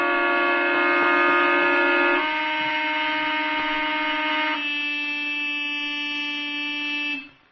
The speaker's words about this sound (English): With some trick. Using the paper clips to hold down the car horns